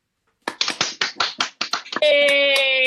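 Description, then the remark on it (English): A short burst of scattered hand claps over a Zoom call during 2020 pandemic campaigning in Alaska, about a dozen sharp slaps coming unevenly over a second and a half, then cut off by a loud, steady, bright tonal sound that holds to the end. “I think that's the first time I ever asked for a round of applause on Zoom, but I think it worked.”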